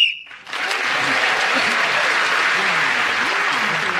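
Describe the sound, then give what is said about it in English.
A short, sharp whistle blast sounds at the very start, blown to end the round as Paul Merton speaks, gaining him an extra point, immediately swallowed by loud, sustained applause from a large audience that carries on to the end. “And Paul Merton, speak as the whistle went, gained that extra point.”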